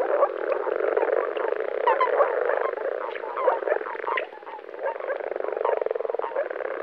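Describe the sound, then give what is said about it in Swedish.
A dense chorus of common frogs, moor frogs and common toads calling together from an amphibian breeding pond, overlapping croaks, grunts and soft purring trills forming a continuous, busy wall of sound with no voices. “Så här kan det låta från en riktig groddamm när vanlig groda, åkergroda och vanlig padda spelar samtidigt.”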